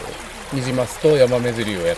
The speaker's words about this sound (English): So right now we are in the mountains in Nishiokopi, and we're at one of the rivers here, and we are fishing for invasive rainbow trout and also native Yamame trout.